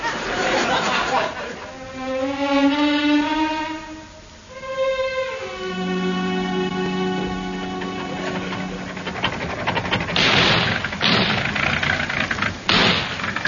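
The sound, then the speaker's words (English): A car with a newly fitted engine runs in Hancock's Half Hour, its pitch climbing and dipping as it revs before settling into a steady, droning hum, with some rattling noise near the end. “Car's going better since we had the new engine put in.”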